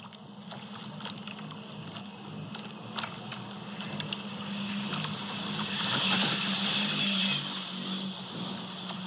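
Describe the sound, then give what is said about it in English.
An AC75-class foiling racing sailboat zips past the boat recording it, a steady high whine and hissing water swelling to a peak near the end, with a low hum and wind buffeting throughout. “And that was it, just zipping past the boat where it was being recorded.”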